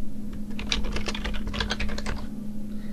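Rapid typing on a computer keyboard, a steady clatter of many keystrokes over a low electrical hum, with no voices; the typing makes messages appear on a Mac screen.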